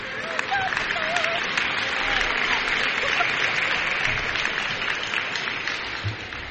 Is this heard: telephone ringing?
no